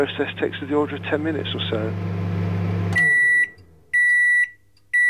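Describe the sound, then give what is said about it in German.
A kitchen microwave oven, used for drying material, hums steadily under a speaking voice, then falls quiet and gives two loud, clear electronic beeps. “Wir fanden heraus, dass sich zum Trocknen auch eine Mikrowelle aus der Küche nutzen lässt.”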